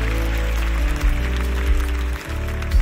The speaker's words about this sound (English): Let's clap our hands. We made it to week 4.